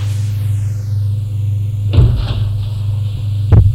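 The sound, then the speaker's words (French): A door at the end of a small corridor in an old building in the Marais is opened by ambulance workers carrying a stretcher: a couple of sharp clunks and a rattle, followed by a final thud, all over a steady low mechanical hum. “Ouvre une porte.”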